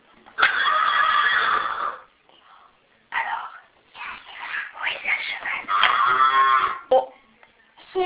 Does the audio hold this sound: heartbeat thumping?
no